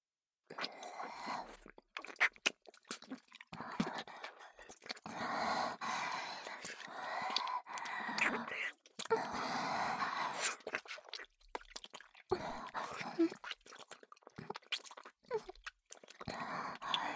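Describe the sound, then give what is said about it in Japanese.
Wet mouth sounds of a woman licking an ear: soft smacks, clicks and slurping that continue steadily and intimately with brief pauses, fairly quiet with no talking. “次は、女性の耳舐めです。”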